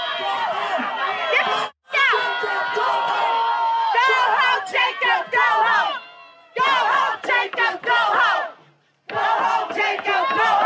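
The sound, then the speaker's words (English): A loud crowd of protesters boos and jeers the mayor, a white Democrat: a dense mass of shouting voices in bursts with brief pauses between them, rising and falling in pitch. “Yeah, they booed and humiliated the mayor, a white Democrat, but they can't actually get politicians to do what they want.”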